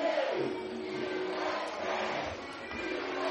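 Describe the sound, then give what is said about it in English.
A stadium crowd of over 4,000 chants "USA" in unison on a Fourth of July evening in the Hill City, a dense, steady roar of many voices that carries across the whole stretch, with no single speaker standing out. “As you can hear the crowd chanting USA, enjoying a beautiful 4th of July evening in the Hill City.”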